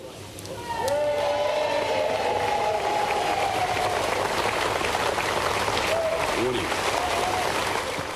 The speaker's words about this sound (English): Today, Mr. Johnson walked out of 10 Downing Street to applause and gave his final meandering speech as the UK's Prime Minister before Liz Truss took over.